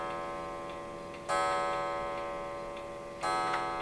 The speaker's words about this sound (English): Three o'clock and all's well. I'm still wondering what idiot put a clock that chimes in the recording studio. That's an inside joke because we all know the idiot who did that was me.